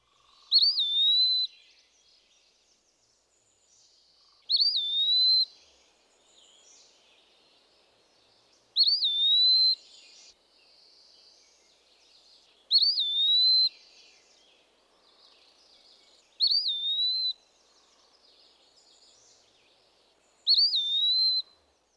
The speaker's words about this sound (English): The Eastern Wood Pewee gives a slow, plaintive whistle of two or three syllables. Note the rising inflection at the end of the phrase.